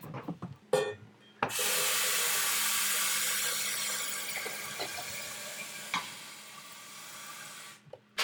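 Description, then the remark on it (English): A kettle being filled from a tap: a few clunks, then a loud, steady rush of running water for about six seconds, easing slightly before it stops. No one speaks. “filling his kettle with water.”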